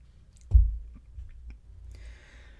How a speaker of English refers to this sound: I'm going to pause and take a drink of water while you ponder that.